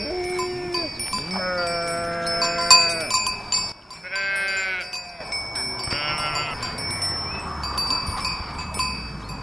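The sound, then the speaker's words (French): Several sheep of French breeds, some with longer wool and only black noses and ears, bleat in turn with wavering calls, some overlapping, over a steady outdoor background with faint bells tinkling throughout. “C'est quel genre de race de mouton ?”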